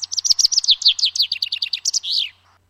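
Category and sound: bird, chaffinch song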